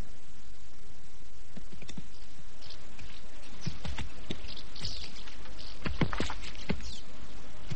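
Horses' hooves clip-clop in an uneven, scattered rhythm of dull knocks and scuffs, moderately loud over a faint rustling background, with no talking.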